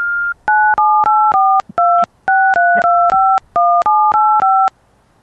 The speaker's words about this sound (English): Yeah, that was the disconnect sequence.